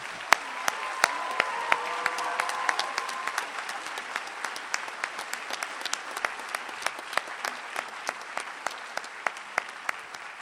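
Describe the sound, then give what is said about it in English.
At a graduation ceremony, a crowd led by the graduates applauds the standing faculty and staff of EMU, clapping steadily for about ten seconds, a dense patter of many hands with sharp individual claps standing out, slowly thinning toward the end. No one speaks. “Graduates, please lead us in saying thank you with a round of applause.”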